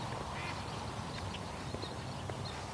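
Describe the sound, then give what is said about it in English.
A duck quacks faintly in a few short, scattered calls as it comes around again and goes down into a puddle where runoff ditches meet, over a steady wash of outdoor background noise with no one talking. “Oh, here comes the duck, coming around again.”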